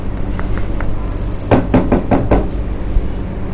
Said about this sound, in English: And then one day there was a knock on the door.